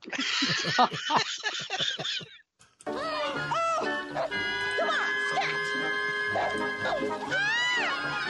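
dog barking and yipping

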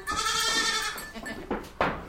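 goat bleating

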